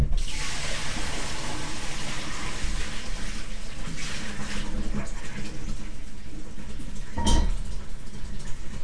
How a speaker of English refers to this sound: And if I just quickly put a little bit in there to rinse it. Yeah. You can put all that water in if you want. It's got soap in it.